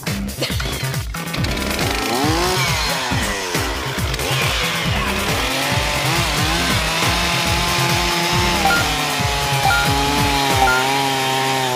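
A chainsaw engine runs loud, its whining pitch climbing and dropping as it's revved up and eased off repeatedly, with a steady rattling idle underneath and no voices.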